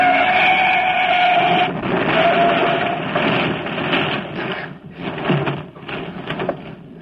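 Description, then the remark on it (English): A truck's tires screech in a high squeal, then a loud, drawn-out grinding crash with rumbling and scraping debris as the truck, on the wrong side of the road, hits a car, smashing its left front fender and headlight; no voices. “Just smashed my left front fender and headlight.”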